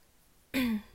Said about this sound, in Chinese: 咳嗽而已，又不是发烧。